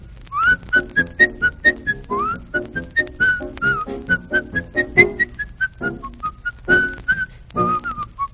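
A bouncy marching tune, the kind the American army of 1776 sang, whistled and marched to, is whistled alone, the bright notes steady and evenly paced with short repeated phrases, moderately loud, with a faint soft tapping underneath.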